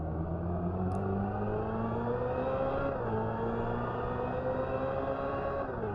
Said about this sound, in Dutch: Evolution is een elektronisch geluid geïnspireerd op de N2025 Vision Gran Turismo concept en de RN22e. Luister maar even.